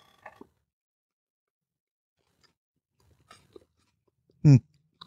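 Chewing a crunchy peanut butter and onion sandwich, with a few soft crunchy bites, quiet pauses between them, then one sharp loud crunch near the end.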